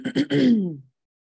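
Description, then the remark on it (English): A short throat clearing before voices join in chanting Om: two quick rough bursts followed by a longer voiced rasp that trails off, with silence afterward and no speech. “Clear your throat.”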